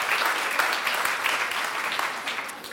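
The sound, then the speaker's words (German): A crowd applauds steadily, many hands clapping in a dense, continuous patter that holds at an even loudness throughout, with no voices standing out. “Lasst uns mal klatschen, dass alle auch vielleicht online irgendwo dabei sind.”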